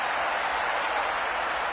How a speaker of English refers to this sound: As Wisconsin is cheering on Bucky Badger.